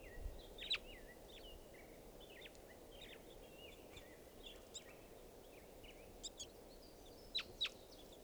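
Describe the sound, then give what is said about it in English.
Birds call throughout in a park, circling across it, with a steady scatter of high chirps and short whistles and a few sharper, louder peeps standing out, all over a constant low rumbling background noise. No one speaks. “Birds are calling here.”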